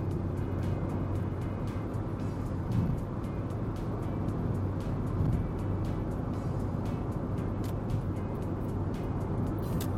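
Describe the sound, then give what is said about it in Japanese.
Steady, loud road and engine rumble from inside a car overtaking in the passing lane on a highway, a continuous droning roar with faint brief swells and no talking. “お、じゃあまた追い越しますか。”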